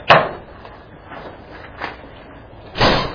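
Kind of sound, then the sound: household object, door shutting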